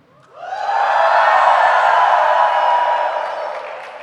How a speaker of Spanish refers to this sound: Venga, vamos a darle un grito de júbilo al Señor.